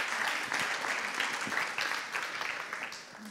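An audience claps steadily, a dense crackle of many hands at an even loudness throughout, with no voices standing out.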